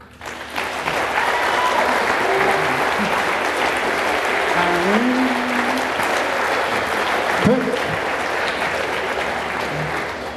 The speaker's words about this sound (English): Your applause, sorry.